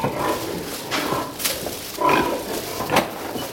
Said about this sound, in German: Das ganze Elend moderner Massentierhaltung. Gestank nach Gülle schon von Weitem, Reihen von langgestreckten Ställen, Baracken ähnlich, in denen sich 14.000 Ferkel und Sauen auf engstem Raum zusammendrängen.